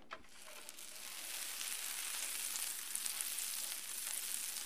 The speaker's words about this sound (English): Once your butter is nice and sizzling, you can spoon a little bit of your batter right onto your griddle and let it cook.